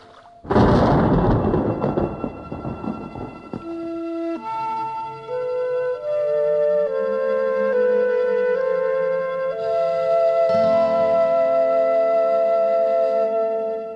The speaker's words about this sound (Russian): Это? Кажется, гром. Хоть бы грозы не было.